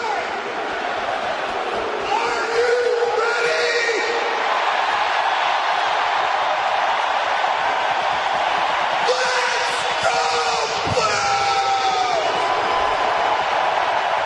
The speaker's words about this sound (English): I thought the … was going to lose a golden lung on that one. That's a tremendous yell.